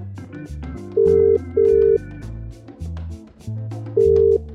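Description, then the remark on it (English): A phone line rings out in steady, evenly spaced electronic bursts, like a call waiting to be answered, layered over a bouncy musical backing with bass notes. No one speaks. It is an outgoing call from the show Every Little Thing to someone in Kiambu County, Kenya. “Today, it's my turn to work the phones.”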